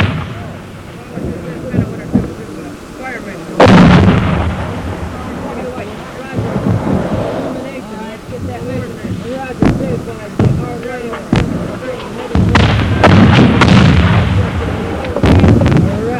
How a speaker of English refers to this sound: We're taking casualties. There, the flash of enemy mortars on that hilltop. Artillery, call for Artie.